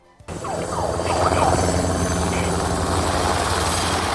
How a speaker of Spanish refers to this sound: Más de 7.500 bomberos y reclusos trabajaron con la ayuda de helicópteros para extinguir las llamaradas que engullieron comunidades enteras.